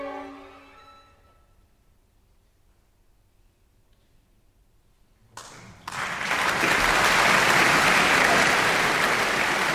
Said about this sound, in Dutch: Applaus voor mezzosopraan Yajir Zhang, die de winnaar zou worden van het Internationaal Vocalist Concours 2017 met dit plichtwerk, zoals het heet.